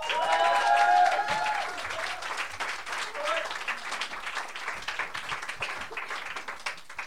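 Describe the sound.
An audience applauds a performer being welcomed on stage, a dense crackle of many hands clapping for several seconds. A voice is briefly heard over it at the start, then the clapping carries on at an even level.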